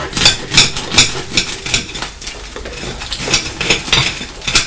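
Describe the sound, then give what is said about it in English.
A knife that is not a bread knife saws through a very crusty loaf of bread, giving a steady run of crunchy, crackling strokes, roughly two per second, bright and scratchy, with no one talking. “Slicing some bread, but don't worry, I won't hurt the train.”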